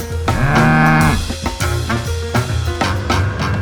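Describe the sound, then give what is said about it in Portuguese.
A long, low cow moo holds for about a second, its pitch sagging at the end, over a loud band of music with rhythmic, percussive hits that carry on after the moo. “Música ruminada em quarto estômago de vaca do brejo.”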